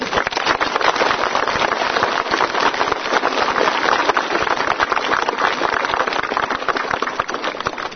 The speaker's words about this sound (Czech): z vašeho potlesku bylo zřejmé, že z mnoha jeho slovy vlastně souhlasíte.